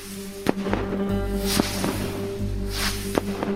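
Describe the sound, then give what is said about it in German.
Fireworks going off: hissing whooshes as rockets launch, punctuated by three sharp cracking bangs spread across a few seconds, with a steady low hum running underneath. A fuse burns as each rocket rises, then reaches the charge inside, which explodes. “das auch bei Raketen, nur das sieht man nicht, weil die Schnur brennt ab, bis in der Zeit fliegt die Rakete hoch und dann erreicht die eine kleine Schnur und die bohrt sich dann weiter ins Innere, was da auch immer drin ist, und erst dann explodiert.”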